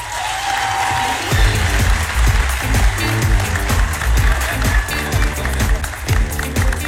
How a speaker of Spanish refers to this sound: Este álbum también les pertenece, así que nos gustaría pedirles un aplauso para ellas.